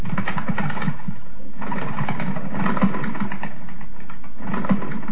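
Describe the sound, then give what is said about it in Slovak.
A flock of bred pigeons, released by their keeper in Petrovce nad Laborcom, flies off with a dense, rapid fluttering of many wings that beats steadily for several seconds, with rhythmic swells in loudness and a soft cooing undertone, and no voices. “Tak keď ste už tu, tak vám pustím tie holuby, aby ste videli, ako lietajú, ako pekne tlieskajú krídlami.”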